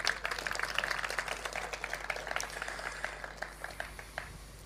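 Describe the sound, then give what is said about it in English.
An audience applauds a sculptor for his work for Hellenism around the world, with many overlapping hand claps forming a dense, steady, crackling wash that gradually thins and softens toward the end. “and of course to our most honored sculptor and dedicated Helene, we should give you a round of applause again for all that you've done in terms of Hellenism all throughout the world.”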